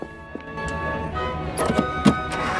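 A petrol pump at a petrol station hums steadily while fuel fills the fuel tank of a Spitfire plane, with a few hollow clunks of the nozzle and a brief burst of gushing near the end.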